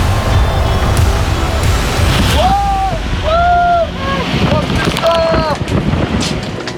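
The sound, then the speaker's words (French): Steady rushing wind and churning waves fill the scene, as if aboard a boat at sea at the North Pole, with a few drawn-out wailing tones rising and falling midway through. “Je crois que le bateau se dirigeait tout seul.”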